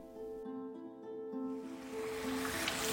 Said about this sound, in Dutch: Nou, we lopen net langs een soort mini-waterval met een gat erin. Maar je denkt, oh, gewoon een mini-waterval met een heel soort donker gras erin. Maar nee, want ik zag Danger of Mine. Dus vroeger zou het misschien een mijn kunnen zijn geweest.